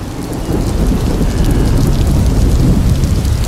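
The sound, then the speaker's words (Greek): A heavy thunderstorm: dense, steady rain pours down while deep thunder rumbles continuously underneath, loud, with no voices. “Όμως, μια φοβερή καταιγίδα τους κράτησε στη στεριά για μέρες.”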